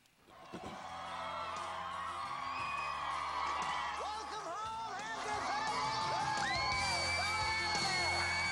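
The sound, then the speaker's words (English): A large crowd cheers, whoops and yells continuously for a family getting out of a limo, with many excited voices overlapping and rising in pitch, loud throughout, swelling stronger toward the end. “There's just so many people there cheering for us so that we could have a new life.”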